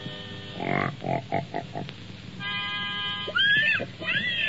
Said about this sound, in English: Hey, wait till you hear my singing pig. First, I gotta get them in pitch.